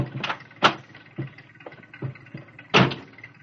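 A truck engine idles close by with a low, steady rumble, broken by a few sharp clunks at uneven intervals. No voices are heard.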